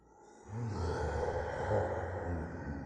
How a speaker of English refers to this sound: And she bared her teeth and let out a great roar.